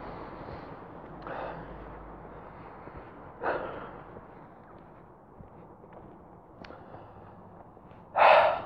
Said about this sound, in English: Guess one thing you can hear without the cars is my breathing.